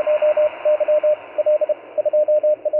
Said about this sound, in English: the dits and dahs are more efficient. Unlike the guys that are communicating using their voice, it uses much less of the spectrum bandwidth to make a contact. You can exchange the information much quicker.